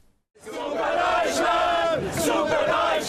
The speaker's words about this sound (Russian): У стадиона Маракана в Рио-де-Жанейро танцуют и поют немецкие болельщики. Вечер воскресенья 13 июля стал для них буквально национальным праздником.